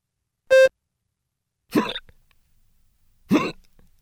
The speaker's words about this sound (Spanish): ¿Qué puedo hacer para dejar de hacer hipo?